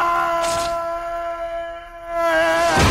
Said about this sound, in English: Here's a great falling yell. Here's someone yelling and falling. I can't remember who. It may have been Peter Parker. Oh, no. This is Thomas Hayden Church or whatever his name is. Here it is.